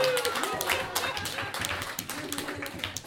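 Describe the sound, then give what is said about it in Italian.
A crowd breaks into steady, dense applause, many hands clapping at once in a continuous patter of sharp claps that holds at a fairly loud, even level, with faint voices mixed underneath. “Se c'è uno che merita un applauso.”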